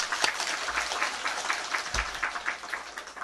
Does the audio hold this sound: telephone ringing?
no